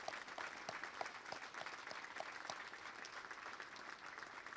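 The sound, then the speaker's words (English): Steady, sustained applause from a sizable crowd honoring police, firefighters and EMTs, a dense wash of clapping that holds at an even level throughout with no voices rising above it. “Please join me in a round of applause for what they do for our nation every day.”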